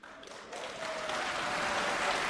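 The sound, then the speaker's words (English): Audience applause at a concert broadcast live by the EBU across many countries, swelling up after a brief quiet start and becoming a dense, steady wash of many hands clapping that holds at full strength to the end, with no talking over it. “Hold your applause, though, because that's not it.”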